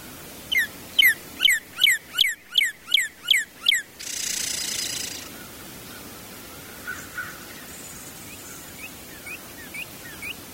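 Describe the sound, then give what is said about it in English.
A northern cardinal sings a rapid series of about eight loud, downslurred whistled notes, ending in a soft, buzzy purring chirr, followed by quieter scattered chips. “One component of a cardinal's song that often goes overlooked, but if you listen carefully, you can actually hear, is a chirr or purring”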